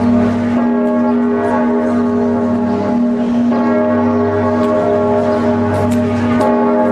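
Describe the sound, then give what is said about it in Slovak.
Large church bells of Notre-Dame cathedral in France toll loudly and continuously, their deep humming tones overlapping and sustaining, with fresh strikes every second or so giving an insistent, urgent peal with no voices. “Prečo nekonali, keď zvony slávneho Quasimoda u Matky Božej takto naliehavo zvonili po každej teroristickej akcii vo Francúzsku?”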